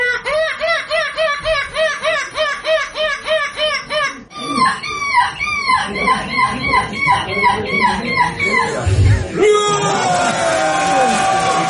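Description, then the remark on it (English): A 10-year-old boy loudly imitates a screeching gull at the European Gull Screeching Championship, letting out a rapid, rhythmic string of shrill, rising-and-falling squawks, which blur into longer, ragged wailing cries toward the end. “the 10-year-old won gold for the second year in a row at the European Gull Screeching Championship.”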